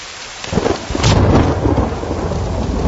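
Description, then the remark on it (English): Steady rain hisses while a deep thunder rumble swells in after a moment and rolls on continuously, loud and full, with no voices. “Rain dances make it rain.”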